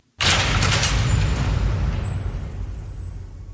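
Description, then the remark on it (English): A heavy vault door slams shut with a sudden loud boom, then a deep rumbling resonance slowly fades while a thin, high metallic ring lingers. No voices are heard. “Or, as you pointed out, it sounds a lot like a cell door closing.”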